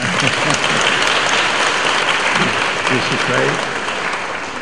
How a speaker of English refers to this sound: Be happy and clap and sing. A buďte šťastní a tleskejte.